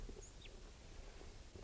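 wild bird calling

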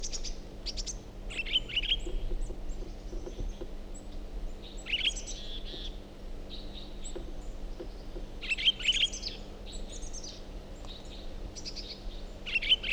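bird song

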